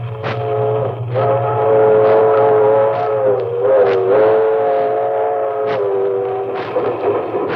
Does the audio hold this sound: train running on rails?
yes